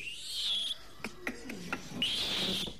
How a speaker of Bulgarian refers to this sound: Но какви са тия крясъци? Нищо особено. Над нас преминава стадо маймуни.